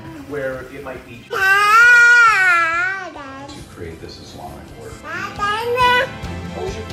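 A toddler babbles and fusses, breaking into two loud, wavering cries, one long wail and a shorter one later, with whiny vocalizing in between.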